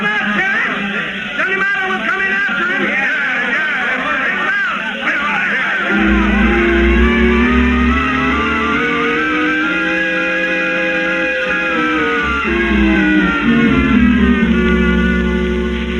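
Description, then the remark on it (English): A dense crowd milling around outside the jail in Weatherby, Arizona shouts and mutters all at once, a loud continuous roar of overlapping yells that swells and falls like an angry tide, with a deeper rumble filling in after the first few seconds. “The shouting and muttering of the crowd milling around outside the jail in Weatherby, Arizona.”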